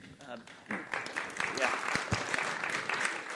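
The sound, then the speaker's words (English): An audience claps for the Lord in a steady, dense patter of many hands, moderately loud and sustained throughout, with voices mixed in beneath the applause. “Let's clap for the Lord.”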